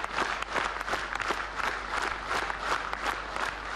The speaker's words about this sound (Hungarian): Álló tapssal fogadták.